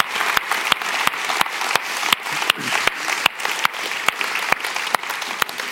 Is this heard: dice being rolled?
no